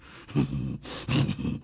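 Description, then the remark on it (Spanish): A wolf growls in two rough, low rumbling bursts, the second slightly longer, with no talking over it. “¡Quítate, lobo! Quieto. Estate quieto.”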